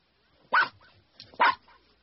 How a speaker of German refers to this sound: Ist das der Hund von Herrn Müller?